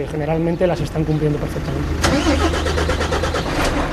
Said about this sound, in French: Le grand camion rouge démarre, chargé d'énormes bidons de produits désinfectants sur sa plateforme arrière.